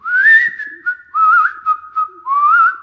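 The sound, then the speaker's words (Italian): A person whistles a birdsong imitation in three warbling phrases, each rising and trilling at a fairly high pitch, loud and clear with brief pauses between them and no talking. “Rocco si china per acchiapparli, ma viene di nuovo rapito dal canto degli uccellini.”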